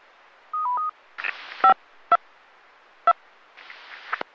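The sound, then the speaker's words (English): A quick series of electronic touch-tone control beeps sent over the Central Carolina Skywarn amateur radio repeater channel to bring it down to standby mode: a short stepped tone, then brief dual-tone pips separated by bursts of hissy static. No one speaks. “Go ahead and bring down the tones now and go down to standby mode.”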